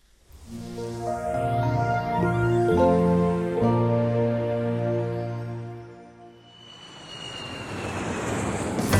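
A loud airplane engine drones steadily with layered humming tones and a shifting whine, then gives way to a broad rushing roar as the aircraft powers up near the end; no voices.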